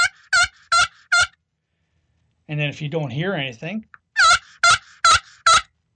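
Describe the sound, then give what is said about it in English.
Turkey yelps played by a man on a pot call, fairly loud to locate a tom turkey, in two loud, evenly spaced runs of four raspy, high notes, with the man briefly speaking between the sequences. “And this is a pot call.”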